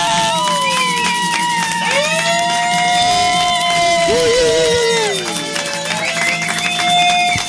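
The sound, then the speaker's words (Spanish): A loud, dense crowd claps steadily while many voices whoop and cheer over it, a continuous roar of applause and shouting that stays energetic throughout. “¿Qué pasa con esas palmas, carajo? Esas palmas, ¡viva carajo!”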